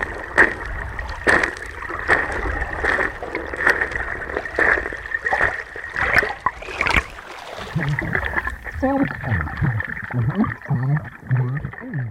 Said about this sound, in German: Und so klingen die Schritte unter Wasser.